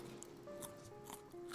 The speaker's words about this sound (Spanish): Tu hija come pájaros. ¿Qué carajo hace con los huesos? ¿No escuchaste que está masticando los huesos?